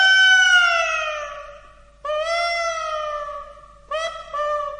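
A gull's mournful cry sounds three times: two long, drawn-out wails that slide downward, then a shorter broken call, loud and clear with no other sounds.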